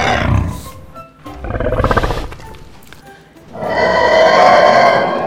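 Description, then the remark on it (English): A loud, growling roar of a Euskelosaurus, a huge dinosaur coming from the forest, broken into several long, rasping bellows that swell and fade, with the final roar the fullest and most sustained. “Suddenly, everyone heard a loud roar.”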